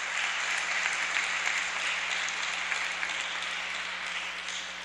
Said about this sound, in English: What a concept. Yes, that deserves applause.